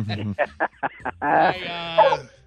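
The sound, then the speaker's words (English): Dogs bark in a quick run of short, sharp yapping barks, then a long, drawn-out whining howl that wavers in pitch before cutting off. It is moderately loud. “Those are dogs there, aren't they”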